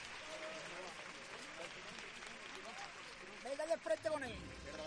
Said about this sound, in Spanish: Ojos llorosos, absolutamente todo el mundo pendiente, y aplausos en la iglesia de Santiago, porque el beso de Judas ya está en las calles de Sevilla, y Sevilla lo sabe.